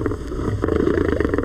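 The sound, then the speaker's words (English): A grown male Maasai lion growls over his daily meal, a 15-pound chunk of raw meat, in a deep, steady rumble with a rough, gravelly texture, swelling into slightly louder pulses toward the end. No voices are heard. “A grown male Maasai lion growls over his daily meal, a 15-pound chunk of raw meat.”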